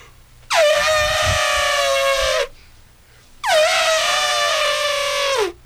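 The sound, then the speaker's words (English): Two loud, brassy trumpeting blasts, each about two seconds long with a short pause between, sound like a person imitating an elephant. The second blast dips in pitch at the end. “Elephant?”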